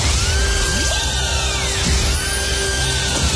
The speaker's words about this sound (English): All you need to do is listen out for the payday alarm that could play any time.